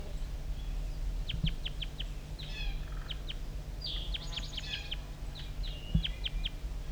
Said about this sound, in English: Start recording the wild bird still around here calling over near the bottom of the hollow.